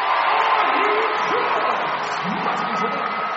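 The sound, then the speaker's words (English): A large arena crowd roars and cheers steadily at a women's college basketball game between the Iowa State Cyclones and the Kansas State Wildcats as Iowa State's Audie Crooks makes a layup, a loud, dense wash of voices with scattered shouts and whoops rising above it throughout. “It was loud in the arena.”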